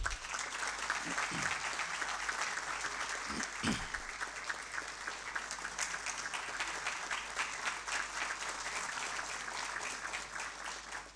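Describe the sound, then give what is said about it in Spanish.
Sustained applause from a large audience greeting Dr. Rolando Juan Alarcón Ríos, president of the Paraguayan Futsal Federation and of the World Futsal Association. Dense steady clapping holds at an even, loud level for about eleven seconds, with a few low thumps early on. “Este dirigente paraguayo es el doctor Rolando Juan Alarcón Ríos, presidente de la gloriosa Federación Paraguaya de Fútbol de Salón y presidente de la Asociación Mundial de Fútbol de Salón, a quien saludamos con un fuertísimo aplauso.”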